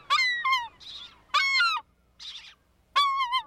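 Loud, harsh calls of American herring gulls come in repeated bursts of strident, downward-sliding cries, with short breathy squawks between them and no talking.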